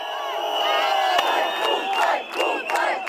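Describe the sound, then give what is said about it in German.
About 100 protesters, almost all men, chant "Serbia, Serbia" and "traitor" outside the independent TV station N1, shielded by a police line, in a loud, continuous roar, voices rising in rhythmic surges with a few sharp bursts cutting through. “Etwa 100 Demonstranten, fast ausschließlich Männer, stehen da und rufen Serbien, Serbien und Verräter.”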